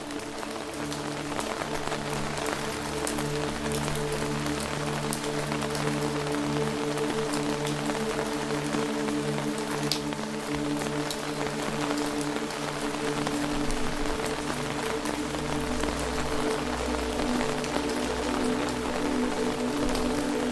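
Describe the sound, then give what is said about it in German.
Steady, dense rainfall patters continuously over leaves and ground in a forest, even and unbroken throughout, with a soft low droning tone beneath it and no voices. “Der Duft des Waldes mit dem Regen umhüllt dich wie eine unsichtbare, wohltuende Decke.”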